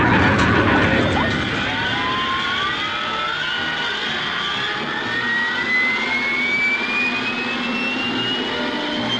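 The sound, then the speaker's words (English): The four jet engines of a V-bomber start up together rather than one after another, a loud, steady roar with a high turbine whine that climbs in pitch as the engines spool up, continuous throughout. “He gets all four engines running together, not one after another.”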